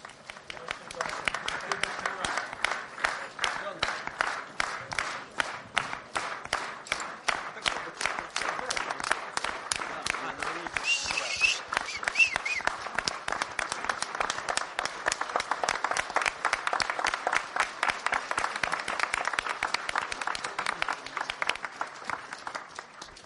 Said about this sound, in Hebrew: בואו נקבל אותם מחיאות כפיים. Красавцы, ребята. חבר'ה, ממש תותחים.